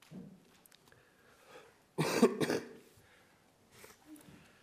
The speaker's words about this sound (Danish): Jeg er sådan lidt forkølet og har lidt i hals, så I må lige bære over med, at jeg lige hoster lidt og så videre.